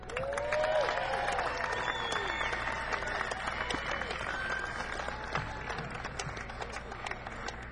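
An audience applauds steadily throughout, a dense, continuous clatter of many hands, with a few whistles and cheers rising over it early on before the clapping eases slightly toward the end.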